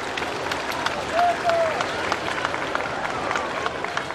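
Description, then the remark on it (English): A crowd cheers and applauds steadily, a dense wash of clapping with a couple of short whistles rising over it partway through, continuous throughout, as a procession escorted by horses from the Portuguese School of Equestrian Art covers the short distance to a pink waterfront former royal residence. “moments later, as protocol dictates, he called on him in his pink waterfront once royal residence with its terraced gardens, covering the short distance escorted by horses from the famous Portuguese School of Equestrian Art as the crowds cheered.”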